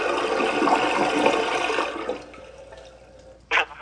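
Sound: toilet flushing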